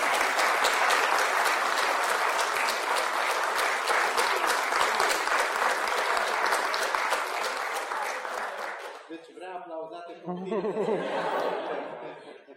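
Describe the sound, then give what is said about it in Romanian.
A large audience claps steadily and loudly for about nine seconds, celebrating the birth of a child, with a few scattered laughs, before the applause fades and a single voice begins speaking. “M-am emoționat și eu de la aplauze.”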